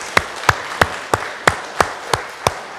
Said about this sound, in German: Und wir dürfen gerne klatschen und uns freuen.